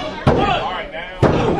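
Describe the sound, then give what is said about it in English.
In a wrestling match, Crow slams Shane Eden onto the mat with a suplex: two heavy, booming thuds about a second apart, each cutting sharply through a steady murmur of crowd noise. “Crow with a suplex.”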